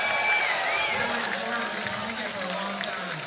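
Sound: audience applause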